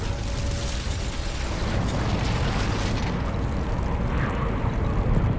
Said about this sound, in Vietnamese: Vụ nổ tạo ra một quả cầu lửa với nhiệt độ lên đến hàng triệu độ C. Những nạn nhân ở gần tâm đều bị thiêu cháy hoàn toàn. Tiếp theo đó, sóng xung kích được giải phóng gây chấn động, phá hủy nhà cửa trong bán kính vài km.